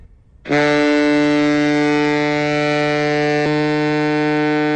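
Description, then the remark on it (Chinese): A ship's whistle sounds one long, steady, loud blast, holding a rich harmonic tone from start to finish with no voices, at a Chinese People's Navy ceremony honoring fallen naval heroes. “一声悠长的汽笛声响过后，24名鸣笛礼兵同时吹响一长声两短声水兵笛，在场全体人员行举手礼，以海军特有的礼仪向为捍卫万里海疆英勇牺牲的人民海军英烈致敬。”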